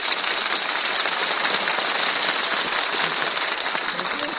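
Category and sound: crowd, audience applause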